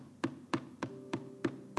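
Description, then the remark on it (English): Six evenly spaced knocks on a wooden pulpit during a Sunday morning sermon, steady and fairly quick like a heartbeat, each a sharp hollow rap with no one speaking. “She said, "Because every day I can feel him knocking.”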